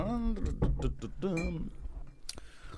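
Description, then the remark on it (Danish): A few sharp clinks of a glass of water being got ready, with a brief high ring, mixed in among voiced murmurs and soft handling noises before one last bright tap. “Nå, jeg skal lige have min vand klar.”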